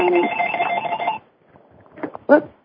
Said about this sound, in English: Got some phones in the background there. Sorry, that's me.